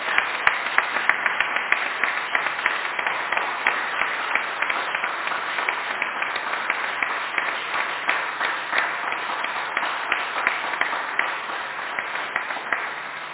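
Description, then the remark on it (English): An audience at a morning church service in Ireland applauds steadily for over thirteen seconds to welcome visiting friends, a dense, even wash of many hands clapping at a sustained, moderately loud level with no voices rising above it. “So let's just give them a round of applause this morning.”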